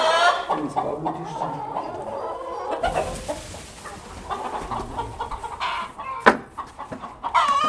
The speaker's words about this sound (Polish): Tu śmierdzi. No szkórnik. No to cicho kury.